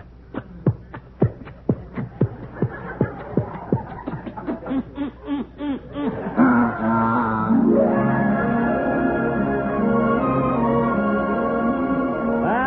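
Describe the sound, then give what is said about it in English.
The engine of a small boat sputters in quick, regular pulses for several seconds, then catches into a steady, loud roar that rises in pitch as it speeds up while the boat sets off. No one speaks. “And as we board our faithful little boat, it is off with a roar of its mighty engine.”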